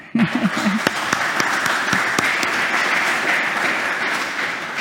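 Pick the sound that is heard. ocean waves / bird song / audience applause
audience applause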